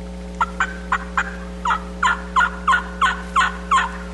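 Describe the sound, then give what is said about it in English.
Wild turkeys gobble up on a mountain in open country in a rapid series of about a dozen rattling notes, somewhat distant, over a steady low background hum with no one speaking. “Hear the turkeys gobbling up on the mountain.”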